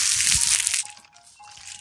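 Loud, dense plastic crinkling as the wrapper of a maple syrup patty on a stick, a Canadian candy, is squeezed and twisted, a bright crackly burst for most of a second, then softer scattered crackles that keep going.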